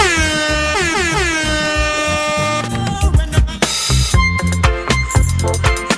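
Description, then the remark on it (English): Two loud, blaring air horn blasts in quick succession, held for a couple of seconds, then a thumping reggae music track with punchy beats carries on with no horn. “I'm stuck with the reggae and the air horns now.”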